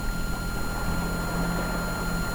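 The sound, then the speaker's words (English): A boat engine drones steadily, with a faint, thin high-pitched whine running continuously above the low rumble. No voices. “I think I can just barely detect a faint whine in the engine that wasn't there before.”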